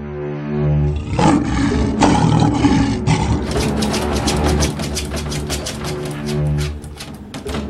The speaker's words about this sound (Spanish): George, esos leones no pueden salir de ahí, ¿no es cierto?